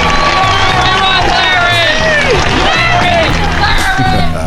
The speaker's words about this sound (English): Is there no sweeter sound than that of your own name, buried in cheers and applause? I think not.